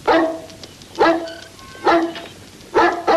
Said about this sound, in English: Lisa, dog is barking.